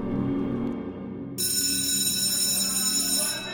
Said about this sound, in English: Finally, the bell rings.